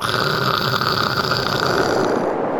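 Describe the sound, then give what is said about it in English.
A man imitates the croak of a male Gulf corvina fish: a harsh, buzzing rattle like loud, noisy static that runs steadily for nearly three seconds, with no talking. “The sound he's about to make is that of a male corvina fish.”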